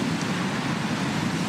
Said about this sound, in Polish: Posłuchajcie, chciałabym, żebyście zobaczyli i posłuchali, jak różny może być wiatr. To jest wiatr halny.